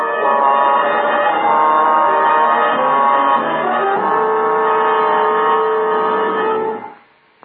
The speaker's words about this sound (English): Except that every time the agent approached a new building, an alarm bell rang.